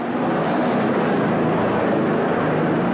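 military helicopters flying overhead

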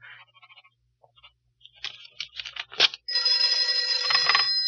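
telephone bell ringing

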